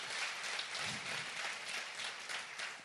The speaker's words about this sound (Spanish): Un aplauso al Señor si quiere.